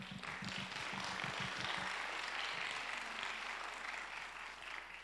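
A crowd applauds steadily, a dense wash of many hands clapping at once that holds loud for about five seconds, with a few distinct low thumps in the opening moments.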